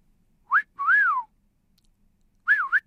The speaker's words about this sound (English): How many different whistles would you understand if they were directed at you? There are quite a few in common currency, aren't there? Look, I'll try some.